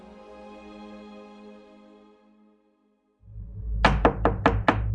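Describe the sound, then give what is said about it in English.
A fading tonal drone gives way to a low rumble, then five loud, rapid knocks on the front door of an old house at night pound out in quick succession, insistent. “That night, a loud knock on the front door of the old house Jin was boarding in was so persistent that Jin startled awake, even though she was on the second story.”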